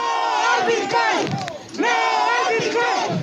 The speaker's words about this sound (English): Protesters in the capital city of San Salvador shouted no to Bitcoin on the first day the cryptocurrency became legal tender, along with a dollar.